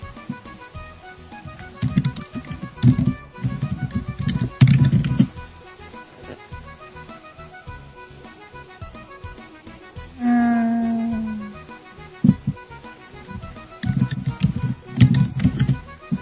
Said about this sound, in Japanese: 正直マイクの位置を置いてここだとすごいキーボードの音が入りますね。